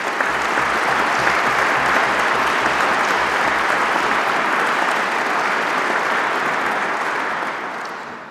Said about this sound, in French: Je demande aux économistes de bien vouloir se lever et je vous prie de les applaudir.